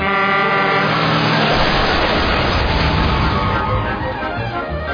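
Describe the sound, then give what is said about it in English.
Dense, loud city traffic roars in heavy traffic flow, with car horns honking over a steady rumble of engines. Sustained horn tones stand out early, then blend into the thick wash of passing vehicles. “heavy traffic flow.”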